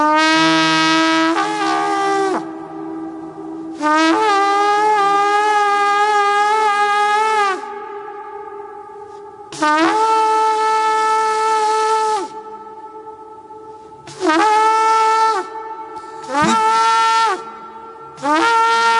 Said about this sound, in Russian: вдруг страж на стене начинает трубить